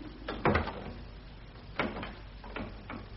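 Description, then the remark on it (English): Mr. Heathcliff locks a door so that no one can get out: a heavy clunk of the handle and latch, then a few sharper metallic clicks and scrapes as the lock turns, with no voices. “Why have you locked that door, Mr.”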